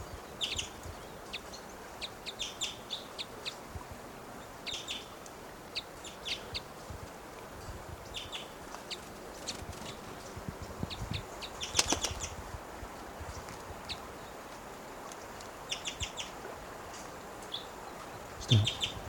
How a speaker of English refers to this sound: According to that male is coming down, he's giving little cuckoo-like calls.